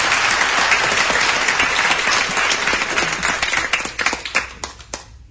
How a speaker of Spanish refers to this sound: así que pues nada, os pido un aplauso muy fuerte para ella y felicidades.